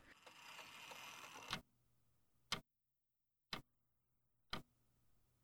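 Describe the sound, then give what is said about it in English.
A clock with fine silver clockwork ticks with sharp, evenly spaced clicks about once a second, following a brief burst of whirring, grinding noise as its tiny silver cogs and gears begin to turn together; no one speaks. “And the whole clock began to make a ticking sound that was quite pleasant to Primrose.”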